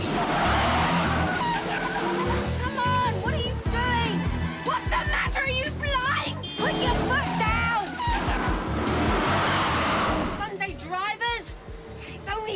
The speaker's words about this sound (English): Okay, now the Spice Bus is racing across London through Trafalgar Square. Pigeons are flying up, guys are diving into fountains.